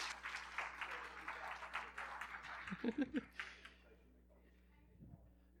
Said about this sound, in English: Would you say amen and give another round of applause? Thank you, guys.